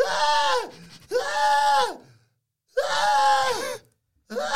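woman screaming

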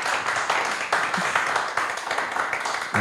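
audience applause

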